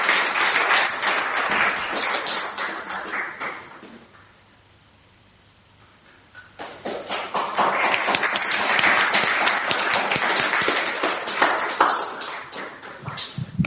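A room full of people claps loudly for several seconds, the applause dipping into near quiet midway before swelling again into sustained, dense clapping that continues to the end.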